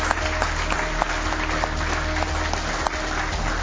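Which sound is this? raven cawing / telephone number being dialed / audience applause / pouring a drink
audience applause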